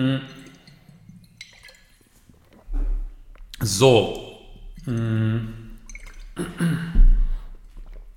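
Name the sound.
sipping and drinking water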